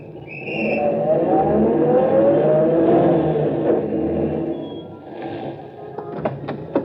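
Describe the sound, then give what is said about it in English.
A car engine rumbles steadily and rises in pitch, then eases off and fades, with a few sharp clicks and knocks near the end as a taxi pulls up and stops. “You're a fast man at getting taxis, Mike.”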